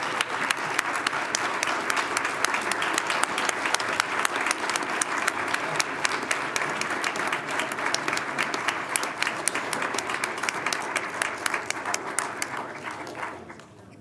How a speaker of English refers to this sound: So give these folks an award-winning round of applause.